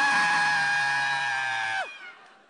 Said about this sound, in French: À trois, on va crier ensemble un cri de frayeur. Un. Et si vous êtes sur Internet, vous pouvez nous suivre. Vous avez aussi le droit de crier. Un, deux, trois. Ah!